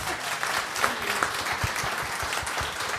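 An audience applauds steadily for the person who prepared the food, a dense, even wash of many hands clapping at a moderate, constant loudness with no voices standing out.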